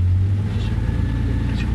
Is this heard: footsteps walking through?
no